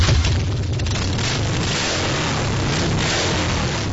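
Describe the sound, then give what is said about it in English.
Harley-Davidson motorcycle engines rev on Main Street in Tomahawk, Wisconsin, during the annual fall ride, in a loud, deep, rumbling roar that holds steady for the whole stretch, thick with low throbbing tones and a gritty rasp, with no voices. “Kerry Young of Beaver Dam and Dave Dewar of Waupun rev up their engines on Main Street Tomahawk”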